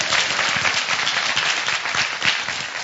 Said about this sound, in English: Nice trumpet. You can clap for him. It was wonderful.